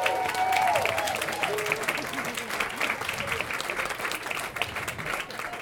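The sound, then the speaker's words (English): An audience breaks into sustained applause, a dense wash of many hands clapping with a few brief voices and cheers mixed in at the start, steady and fairly loud throughout. “So the clapping hand motion is awesome.”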